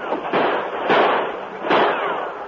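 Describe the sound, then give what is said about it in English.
Three sharp, loud gunshot cracks in a radio drama, fired by Tonto, the sheriff and his men as they run up a ship's gangplank, ring out at uneven intervals, each trailing off in a rough, noisy decay, with no voices over them. “Tonto, with the sheriff and his men, ran up the gangplank, firing as they came.”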